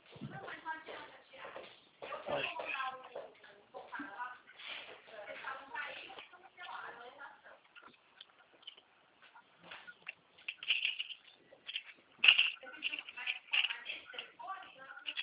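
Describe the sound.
Someone rummages around to fetch a pen during a phone call, making scattered clicks, taps and rustling shuffles. Muffled talk comes first, then the handling noises continue in uneven bursts, sounding thin as if over a phone line.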